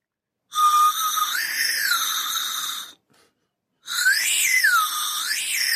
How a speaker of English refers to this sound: Yeah. It's like a dog whistle. Yes.